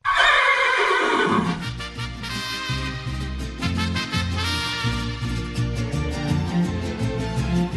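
A horse gives one loud, shrill whinny that falls away in pitch over a second or so, then a band's music starts up and carries on steadily.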